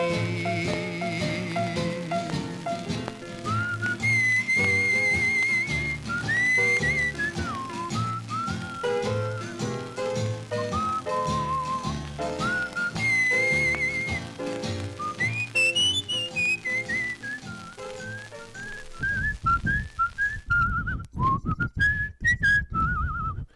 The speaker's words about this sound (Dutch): …, met een fijn fluitje aan het eind